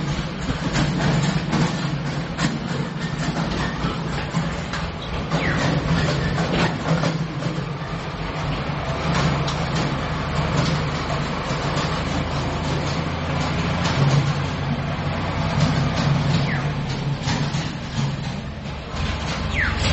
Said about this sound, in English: Wait, let the tractor go by.